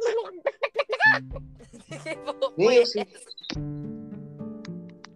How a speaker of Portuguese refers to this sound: Uma galinha.